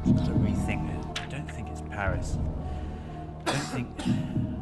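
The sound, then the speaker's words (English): A man's voice mutters and then breaks off mid-sentence into a few harsh coughs, fairly loud, with low rumbling background noise throughout. “With the cough cutting him off mid-sentence,”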